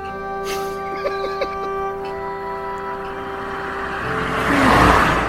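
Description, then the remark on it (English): A car approaches along a road, its steady engine hum swelling into a loud rushing whoosh as it passes near the end. A few brief chirps sound early on. “That was great. Quite a long car, you know.”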